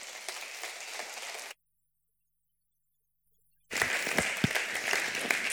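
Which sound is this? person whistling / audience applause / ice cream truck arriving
audience applause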